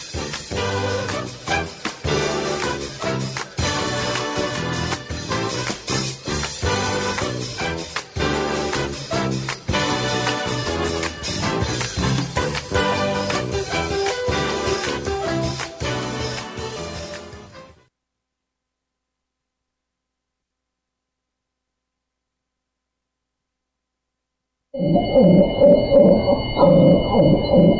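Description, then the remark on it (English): A long stretch of full, busy music ends in silence. Then comes a loud burst of hoarse, raspy barking from a devocalized female dog whose vocal cords were cut, so her bark sounds muffled and breathy rather than clear. “That's the sound of a dog whose vocal cords were cut just to stifle her voice.”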